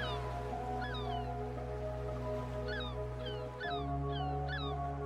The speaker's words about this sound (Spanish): respiras el olor característico a la sal del mar y observas las gaviotas blancas.